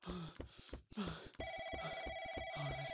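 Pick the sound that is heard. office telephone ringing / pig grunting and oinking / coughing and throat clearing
office telephone ringing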